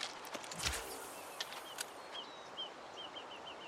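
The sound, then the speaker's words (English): Steady rushing water from a waterfall jutting out of a vine-covered monolith, with green water, fills the background while a bird chirps in a quick series of short, high notes, with a few clicks and knocks near the start. “You can hear birds, you can hear the waterfall, you can hear the water flowing.”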